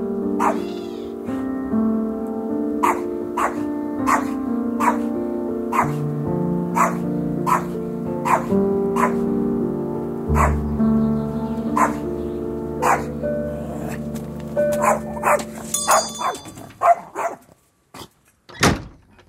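A dog barks repeatedly in a steady rhythm, sharp, over a sustained tonal background; the barks grow more irregular and scattered toward the end.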